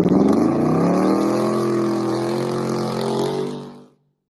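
A loud truck engine revs hard for about four seconds, its deep rumble climbing in pitch before settling into a steady roar and cutting off abruptly. No voices.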